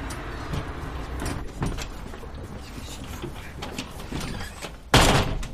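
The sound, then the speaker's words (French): Doors of a space with about 250 square metres of floor being closed: a series of clunks and rattling bumps, then a louder, sharper slam near the end, with no one speaking. “Ça vous ennuie si je ferme un tout petit peu les portes ou pas ?”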